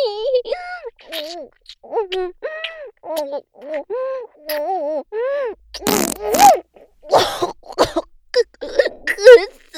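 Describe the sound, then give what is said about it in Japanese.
A short, loud fart bursts out partway through, a rough blast with a low rumble, surrounded by a high-pitched voice talking before and after it. “臭い。おなら。おなら、いや、臭いですよ。”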